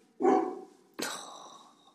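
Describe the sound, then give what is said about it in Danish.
A neighbour's dog barks twice, about a second apart, each bark sharp and loud with a lingering, echoey tail, and no one speaking. “Nu går jeg naboens hund.”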